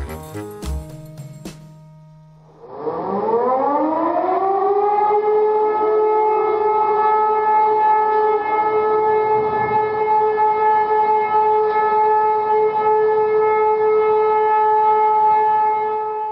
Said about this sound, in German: Auf einmal heulten die Sirenen anders, als man es bis dahin kannte. Das war kein Intervall, es war ein Dauerton, der vor 70 Jahren überall im Land zu hören war.